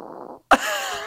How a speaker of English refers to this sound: That's Francisco, the small dog that's been in the room with us the whole time while recording this show. This is how he breathes.